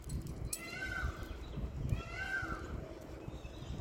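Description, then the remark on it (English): A peacock lets out two loud, wailing screams about a second apart, each a drawn-out nasal cry rising and falling, over a steady rumble of outdoor background noise. “That was a peacock, the thing that sounds like a giant cat screaming.”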